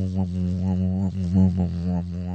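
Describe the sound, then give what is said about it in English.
A voice hums a low, steady buzz that wavers and swells in pitch, imitating a drunken, wobbly bee drifting about. It is continuous for a couple of seconds. “This is how a drunken bee might sound.”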